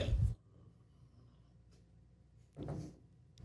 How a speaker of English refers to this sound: I'm dying. That's why I jogged this morning, trying to get all this stuff out of my system. It's just, I'm not sick, but I'm just coughing this crap up.